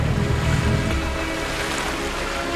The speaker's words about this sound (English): In the motorboat, Ida and the kids follow at a distance.